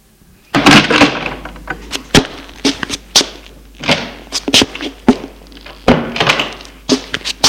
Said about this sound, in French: Chez ses parents, qui habitent en 4 pièces cuisine, pauvrement meublée mais propre, tout semble comme à l'ordinaire. Sa mère lui a ouvert la porte en ne lui disant rien.